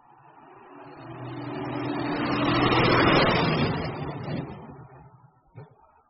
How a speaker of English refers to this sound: What's that noise? Is it an aeroplane? No, it's a lorry. It's loud. I don't like it.